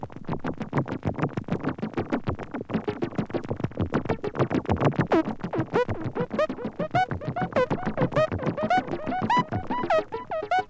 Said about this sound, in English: Maybe some bacon frying and the bacon grease sizzling and toast popping and the water boiling and bubbling.